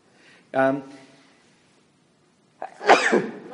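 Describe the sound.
A single loud sneeze bursts out, followed by a quiet pause and then a brief, noisy burst of several voices blessing the person who sneezed.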